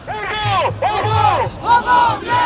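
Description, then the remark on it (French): A street protest crowd in Paris, France, demonstrating on a Wednesday against the labour code reform bill, chants in loud, rising-and-falling bursts, many voices blending into rhythmic shouted phrases with brief dips between them and a low rumble underneath. “il y a eu mercredi des manifestations contre le projet de réforme du Code du travail.”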